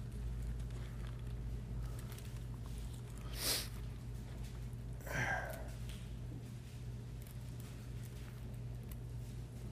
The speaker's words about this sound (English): You guys forgive me, my sniffles. I have a little bit of a cold hanging on.